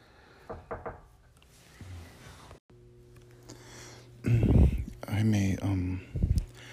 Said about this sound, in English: I got a knock on my door interrupting that, saying to please continue whatever you're talking about, because these walls are so paper thin